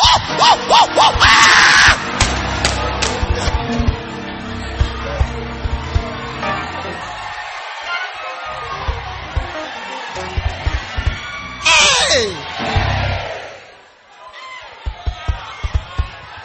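A loud church audience screams and cheers in a church, with sharp shrieking bursts at the start and again near the end, the roar dipping briefly before swelling back.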